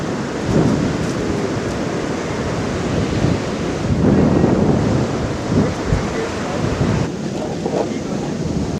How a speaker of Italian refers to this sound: Queste sono le onde che si sentono sulle spiagge della città più grande del Pakistan, Karachi. Si trova sulla punta meridionale del Pakistan, proprio sul Mar Arabico, in un paese con circa 1000 chilometri di costa.